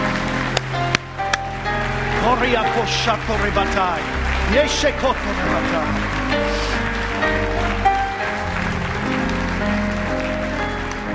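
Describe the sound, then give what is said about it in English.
A church audience gives a clap and a shout unto the Lord, sustained clapping mixed with shouts and cheering voices, a dense, steady wall of noise that holds at a loud level throughout. “In Christ's name, let's give a clap and a shout unto the Lord.”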